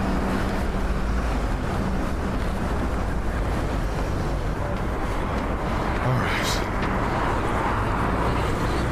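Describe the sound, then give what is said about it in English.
Steady, loud roar of passing road traffic on top of Waterloo Bridge in London, with gusting wind across the microphone, a continuous dense wash of engine and tyre noise; a man briefly speaks over it. “Top of Waterloo Bridge.”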